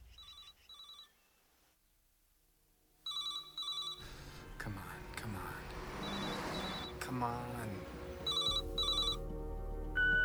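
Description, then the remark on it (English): A telephone rings in repeated double bursts, heard through the caller's line, as a man driving in a city holds the phone to his ear and mutters impatiently over the rings while background noise rises. “drives in the city, phone to his ear.”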